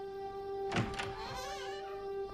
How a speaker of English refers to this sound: She shuts the door on him.